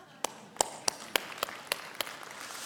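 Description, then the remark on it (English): An audience claps in a steady, even rhythm, about seven sharp claps in under three seconds, applauding the couples present during a sermon, over a soft hiss of room noise. “How many couples are here today? Applause for couples.”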